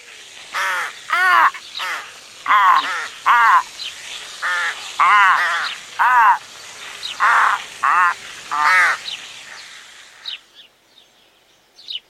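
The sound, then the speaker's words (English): Several crows caw loudly and harshly in a steady string of overlapping calls for about ten seconds, then the cawing breaks off and fades into quiet. “Eight crows with a garden hose.”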